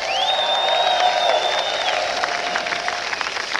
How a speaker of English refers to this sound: I was going to ask you to applaud to make them welcome, but that's happened.